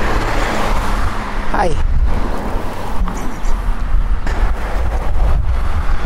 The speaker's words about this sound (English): So I have a prayer that I'm really connected, and it's very windy today, which makes it harder.